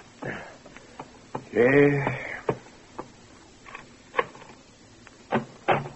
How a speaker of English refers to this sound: Late the next morning, a persistent pounding on the bedroom door awakes you.